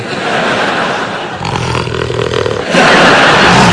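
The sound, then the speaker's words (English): A car engine roars and revs loudly, with a gritty, noisy tone that shifts midway and surges even louder near the end as it accelerates. No voices. “Let's use the car.”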